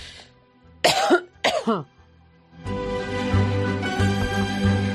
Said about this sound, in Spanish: perdón, con las toses.